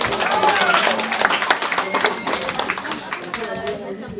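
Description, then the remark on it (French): People at a quiz claps steadily for several seconds for a team that has 10 points, dense overlapping hand claps at a lively level with some chatter mixed in. “Vous pouvez les applaudir, 10 points.”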